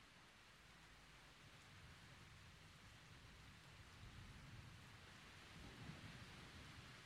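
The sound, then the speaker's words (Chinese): Thunder rolls outside in a low, steady rumble beneath a constant hiss of rain, swelling slightly toward the end. Nobody speaks. “你听，外面还在打雷，我一个人睡会害怕的。”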